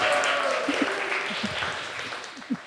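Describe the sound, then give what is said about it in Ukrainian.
An audience applauds steadily, a dense wash of many hands clapping at an even level, with a few louder individual claps and faint voices popping through the noise. “Оплески.”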